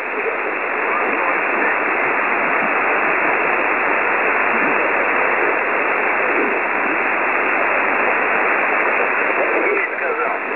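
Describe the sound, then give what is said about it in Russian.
Loud, steady shortwave amateur radio interference from someone tuning up on the frequency, a dense band-limited hiss that runs unbroken for about ten seconds with no clear voices, like a receiver swamped by a station tuning up. “Так, еще раз, пожалуйста, здесь кто-то настраивался. Пожалуйста, не настраивайтесь, у меня вот плюс 60 был сигнал.”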